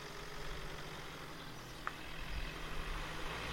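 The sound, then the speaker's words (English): A car engine rumbles low and steady beneath broad outdoor noise on a sunny day, holding an even level throughout, with a faint click partway through and no voices. “There's a car.”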